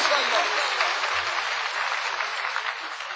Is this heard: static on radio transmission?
no